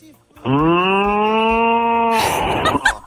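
A cow moos once on the Massa FM radio segment 'Alô, boi', a long, loud, steady low call lasting nearly two seconds, ending in a rougher, breathy burst before fading.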